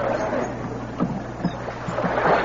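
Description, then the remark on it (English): Men row a rowboat together through choppy water, keeping the bow straight into the waves, with oars dipping and splashing at a steady rhythm over a constant wash of waves and a low, rumbling background hum. “Shove off, men. Now pull. All together, pull.”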